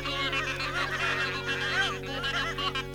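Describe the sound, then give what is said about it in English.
A flock of geese honking together in a dense, overlapping chorus, loud, with continuous nasal calls layered over one another and no pauses. “And soon all the geese were praying, one by one, and in duets, and in trios, and all together in a great chorus.”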